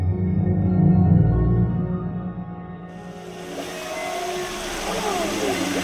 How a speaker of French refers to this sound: Alors là, on entend des chants, des différents types de sons, des whoops, ouais, de baleines à bosse. Un truc que j'aime bien dans celui-là, c'est qu'on entend une sorte d'écho.